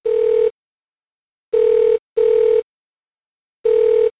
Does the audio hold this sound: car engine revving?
no